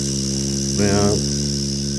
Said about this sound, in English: We have fans buzzing.